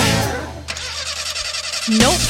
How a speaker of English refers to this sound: What a fetching pain. Something. Let me crank the engine harder.